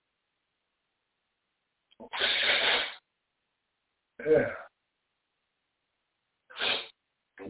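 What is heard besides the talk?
person blowing their nose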